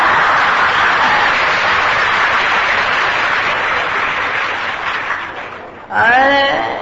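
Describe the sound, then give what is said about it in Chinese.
Loud, sustained audience applause, a dense wash of clapping that holds steady for about six seconds, then cuts off as a voice begins speaking at the end. “这鼓掌这么大声，可能新加坡的男人都这样子了。”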